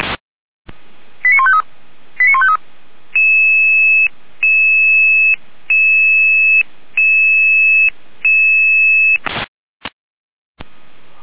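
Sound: radio dispatch alerting tones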